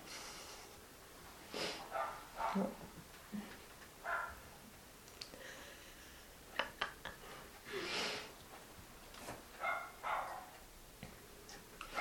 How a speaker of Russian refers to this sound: Мне кажется, и собаки-то сейчас орут больше, чем раньше.